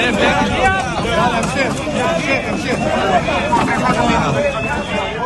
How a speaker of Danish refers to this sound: Ja, her der kan man høre redningsfolk prøve på at arbejde med at hjælpe folk ud af bygninger.